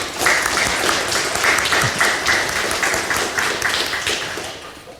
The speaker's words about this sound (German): Ich denke, das ist einen kurzen Applaus wert.